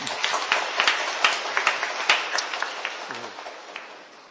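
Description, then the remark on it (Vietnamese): A crowd applauds to welcome a gift of Divine Mercy pictures and rosaries. Many hands clap in a dense, steady patter that gradually thins out, with no one speaking over it. “Và chúng ta cho một tràng pháo tay để đón nhận món quà này nha.”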